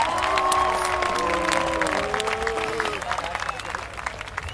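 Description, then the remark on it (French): A crowd of protesters applauds a speech at a gathering, clapping steadily with scattered cheers and raised voices over the top, the applause dense and loud at first, then thinning and fading toward the end. “Du coup, bah voilà, vous êtes libre d'applaudir ou pas cette prise de parole, et voilà.”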